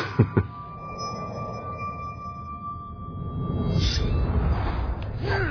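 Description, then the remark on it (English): Breakaway glass made of a cast material is dropped from the top of a stage onto the stage and shatters in two sharp cracks right at the start. A thin ringing tone and a low rumble linger afterward, and the rumble swells toward the end. “We tried a lot of different things, and ultimately they made it out of some kind of cast material, like a candy glass or breakaway glass, and dropped it from the top of the stage, on a stage.”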